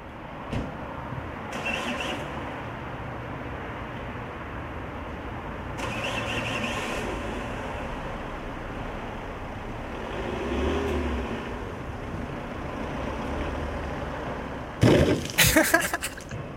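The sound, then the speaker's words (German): A car engine rumbles steadily with a few swells like revving, then sharp loud clattering bursts break in near the end. “Jetzt stellst du dir vor, es ist dein Auto”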